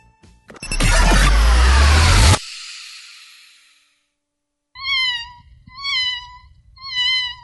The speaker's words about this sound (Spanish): ¿Qué es eso, Marcelo? ¿Qué es? Creo que es un gato.